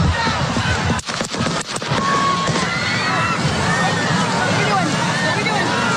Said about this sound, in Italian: Il momento degli spari, l'audio.